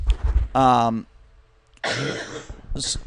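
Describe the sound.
A woman coughs close to the microphone, a few rough, throaty bursts separated by short pauses, the first one partly voiced and the later ones harsh and breathy.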